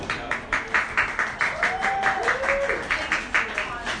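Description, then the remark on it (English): A crowd at Nats Landing on St. Simons claps in a steady, quick rhythm during a live sports radio broadcast, around four claps a second, sustained throughout, with a faint voice rising briefly in the middle. “We need to work with our crowd on when they're supposed to clap.”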